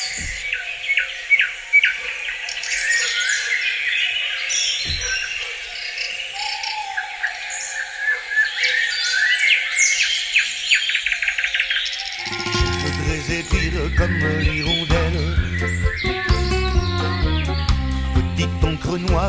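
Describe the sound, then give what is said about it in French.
Many birds chirp and trill at once in an echoing forest that sounds like a cathedral, with a steady high insect-like drone beneath; after about twelve seconds, loud music takes over. “le son est exactement celui d'une cathédrale. C'est la seule forêt au monde qui sonne comme ça.”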